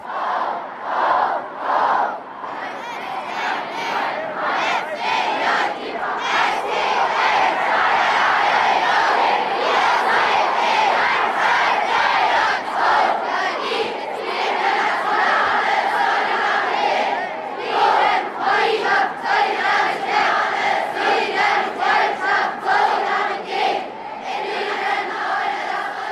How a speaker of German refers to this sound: Also, und dann haben wir natürlich auch immer viel gejubelt. Und das, ich habe euch da ja ein paar Töne mitgebracht, wie sich so ein Jubel anhört. Und vielleicht können wir das jetzt mal leise einspielen.